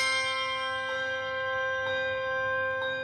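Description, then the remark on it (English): Handbells made at a small factory in rural Pennsylvania ring in a steady rhythm, each fresh strike every second or so adding to a shimmering wash of sustained bright tones, with no voices present. “Handbells.”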